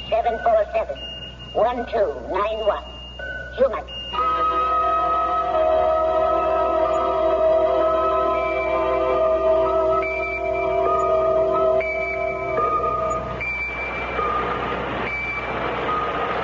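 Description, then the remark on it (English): A pocket alarm watch sounds off with a shrill, steady electronic tone that holds for several seconds before cutting out, following a stretch of voices talking at the start. “I've got a pocket alarm watch, and it keeps trying to tell me something.”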